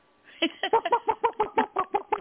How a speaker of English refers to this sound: That's a chicken. A rooster, I don't know.